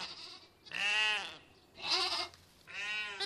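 A flock of sheep bleats in answer to a person standing in front of them: three wavering, nasal bleats in a row, each about half a second long and separated by short pauses, fairly loud, with no talking.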